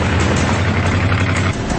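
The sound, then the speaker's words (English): A pickup truck bearing a Confederate flag races down a street toward children, its engine roaring loudly and steadily, a deep rumbling drone with a dense, gritty roar layered over it that continues without pause throughout. “Oh, here comes that white male in a truck.”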